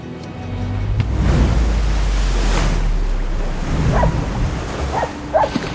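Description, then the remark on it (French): Dogs bark a few times in short, scattered bursts toward the end, set against a steady roar of sea waves and wind, with no one speaking. “Ils savent pêcher des poissons avec l'aide de leurs chiens.”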